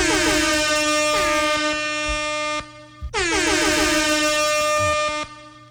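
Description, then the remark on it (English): Two long, loud air horn blasts ring out back to back, each a sustained brassy tone with a brief gap between them, and no one speaks. “Maybe Jeremy could put in some air horns in there.”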